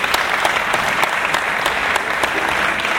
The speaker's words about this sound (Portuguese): Por enquanto, uma salva de palmas para o nosso italiano que está presente aqui, ó.